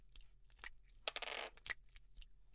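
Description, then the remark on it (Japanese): Dice rattle and clatter across a hard surface: a few sharp clicks, then a dense half-second tumble and a couple of final taps. It is fairly quiet, with no one speaking. “でも休憩は短くするのがこの授業の方針だから、サイコロすぐ振っちゃうね。”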